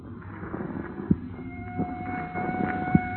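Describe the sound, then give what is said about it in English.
Police car sirens wail in steady, sustained tones out in the country, rising slightly in level, with a few sharp knocks and a low rumbling background beneath them. “What is there about police drivers? Even out in the country, they got to lay on those sirens.”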